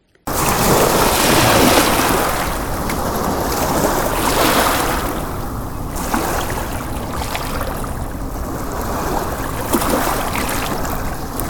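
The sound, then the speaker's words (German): Sea water churns and splashes continuously, with waves surging loudly in a dense, rushing wash that swells and eases slightly over several seconds, with no voices present. “Der Stier rammte direkt in das Meer.”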